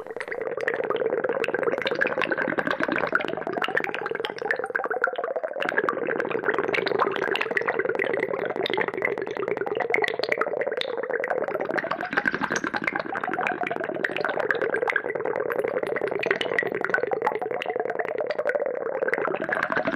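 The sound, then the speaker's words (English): Dense, continuous bubbling and fizzing crackle of bubbles in ice water, recorded in Antarctica, layered over a low steady drone with slow warbling, rising and falling tones, fairly loud and unbroken throughout, with no voices. “You mentioned bubbles, and this is called …. It was recorded in Antarctica.”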